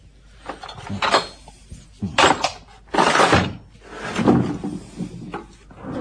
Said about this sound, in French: Ça, c'est un marteau exprès. Voilà, comme ça. C'est juste pour tailler, toi. J'aime bien la taille de pierre, moi. C'est le bruit, j'aime bien.